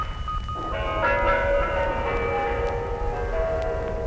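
Bell chimes ring out in sustained, overlapping tones that swell after a brief quieter opening and hang in the air over a low background rumble, with no one speaking.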